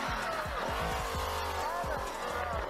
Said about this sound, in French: Fait que là, il part en trombe. Il règle son moteur à côté, il part en trombe.